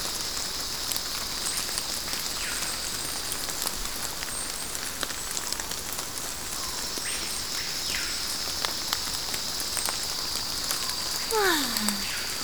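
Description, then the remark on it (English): Steady rain pattering through the Amazon jungle canopy, a dense continuous hiss with scattered drops, while insects drone a high buzz underneath and a faint bird call slides down near the end. “The sound of the rain in the Amazon jungle makes me feel so happy inside.”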